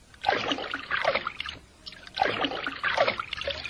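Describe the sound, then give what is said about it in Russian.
Two bursts of water splashing and sloshing, each lasting about a second, fairly loud with a short quiet gap between them, as a snakebird dives and swims underwater. “Я хорошо умею плавать под водой. Ты умеешь нырять? Ну, конечно. Вот смотри.”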